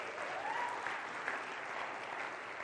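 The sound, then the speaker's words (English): Steady audience applause welcoming a new women's ministry pastor fills the whole stretch, a dense wash of many hands clapping at an even level, with a faint tonal whistle-like streak rising briefly partway through. “And I'll have you know, no one clapped when I came on staff.”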